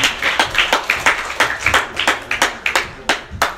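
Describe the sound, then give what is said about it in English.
A crowd applauds its volunteers with quick, overlapping claps forming a steady, lively patter at moderate volume, with no voices over it. “All right, let's give our volunteers a round of applause.”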